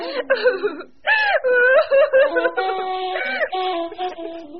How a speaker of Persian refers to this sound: مادر حسن اونقدر ناراحت شده بود که پاک زد زیر گریه.